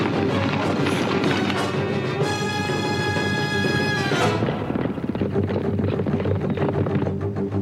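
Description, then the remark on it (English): Horses gallop with a dense, rapid clatter of hooves, loud and continuous throughout, joined midway by a brief tonal, ringing sound before the pounding carries on. “Yep, we're on horses, kind of implied.”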